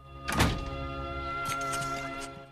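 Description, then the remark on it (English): A woman pulls a man's apartment door shut with one heavy, dull thunk, followed by a second of quieter rattling and clicks as it settles, over a faint steady hum. “She pulls his apartment door closed.”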